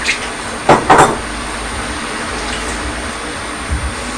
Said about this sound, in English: I think we'll just stop the tape because the sound of the kettle is over.